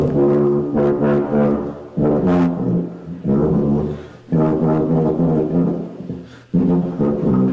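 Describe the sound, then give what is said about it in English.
A tuba plays a slow melody of loud, low, buzzy sustained notes in three phrases with short breaks between them, apparently meant to be Jingle Bells. No one talks over it. “I think it's supposed to be Jingle Bells.”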